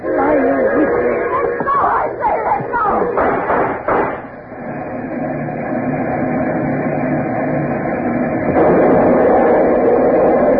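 A train rumbles steadily toward a crossing, with a cluster of clattering, knocking bangs early on before the heavy rolling noise settles in and swells louder near the end.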